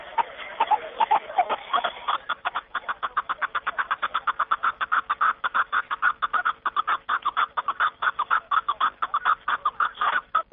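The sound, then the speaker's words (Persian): A snowcock (mountain partridge) calls in a long series of rapid, evenly spaced clucking notes, gradually steadying into a regular chattering rhythm, clear with no talking. “جناب شریفوف همچنین افزود که کپک دری صدای خیلی آرام دارد و زیب کوهساران است.”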